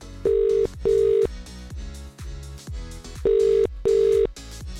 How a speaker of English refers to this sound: If you're in Ashford right now and your phone's ringing, it could be me.